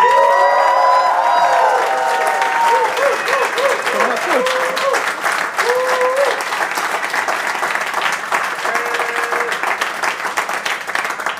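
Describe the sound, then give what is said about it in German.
A loud live audience at a show broadcast live from Berlin applauds steadily to greet Federal Health Minister Nina Wagen, dense clapping filling the whole stretch, with whoops and cheering voices rising on top, especially early on, gradually settling slightly but staying strong. “Und da wir ja hier live aus Berlin senden, würde ich einmal noch unser Publikum bitten, sich so richtig lautstark bemerkbar zu machen.”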